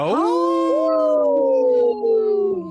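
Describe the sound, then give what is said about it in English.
People imitate a wolf howl with one long, loud, sustained call. It swoops upward at the start, then holds and slowly sinks in pitch for nearly three seconds, with voices overlapping. “Hey, let's give a big howl.”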